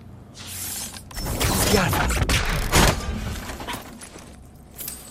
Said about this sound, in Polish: Ja sobie tylko zmienię baterię, sekundka.